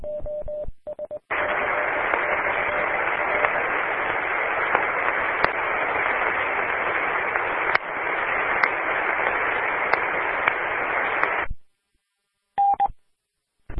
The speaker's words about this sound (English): All I hear is white noise. White noise there, station.